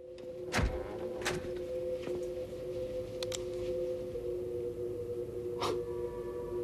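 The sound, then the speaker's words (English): A door inside a suite being opened: a few sharp clicks and clunks spaced irregularly over a steady, low electrical hum, with no voices. “She enters. She moves further into his suite, opens a door,”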